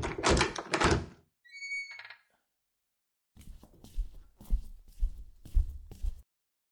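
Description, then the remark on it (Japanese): A door clunks open with a short squeaky hinge creak, then after a pause about six steady footsteps walk through it, fairly loud, with no talking. “無事新しい扉が出たな。次こそ現実へ戻れる扉だと信じて。いざ！”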